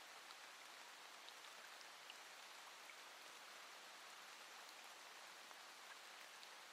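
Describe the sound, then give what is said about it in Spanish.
Steady rain falls continuously, a dense even hiss of countless drops with faint individual patters, moderately soft, with no voices. “Todo eso se va con la lluvia.”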